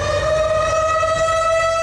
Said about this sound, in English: tornado sirens rang out ahead of several reported twisters. At least 8 tornadoes touched down in 4 counties in northeastern Illinois.